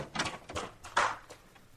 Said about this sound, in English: And Mr. Chameleon smiles, then looking every inch the small-time peeper, he pushes open the door to the apartment and enters.